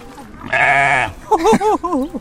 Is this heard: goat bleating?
yes